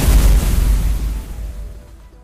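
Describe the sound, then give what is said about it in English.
A heavy cannon blast booms out, a single loud explosion with deep rumbling low end that slowly decays over about two seconds, with no voices present. It is a fire cannon shot launched by a computer opponent in a turn-based video game battle. “Computer select that, each other's, the evil chocolate cookie launched fire.”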